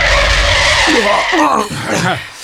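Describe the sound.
A loud screech of tires as a car brakes hard and skids, the squeal dragging on for a second or more while voices break in over the end.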